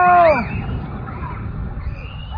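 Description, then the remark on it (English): A loud, high-pitched shriek from people jumping into a pool slides downward in pitch for a fraction of a second, then gives way to a steady, rumbling wash of background noise with faint voices, in a poor-quality video recording. “And if you can kind of hear, there's like shrieks. There's shrieks in the background.”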